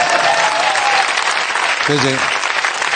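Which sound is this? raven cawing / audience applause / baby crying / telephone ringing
audience applause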